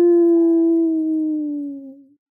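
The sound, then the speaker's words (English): A coyote lets out a single long, drawn-out howl, loud and close, its steady pitch sagging slightly lower before it fades away after about two seconds. “Somewhere nearby, a coyote howled a long, pleading, "Ar-ar-ar-oo!"”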